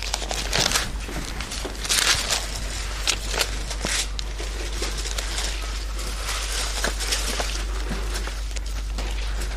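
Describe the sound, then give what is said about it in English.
Bible pages being turned to Romans chapter 9, a continuous papery rustle with many overlapping crisp flips and crinkles, bright and hissy, running steadily for the whole stretch with no talking. “Isn't the turning of Bible pages just one of the prettiest sounds in life?”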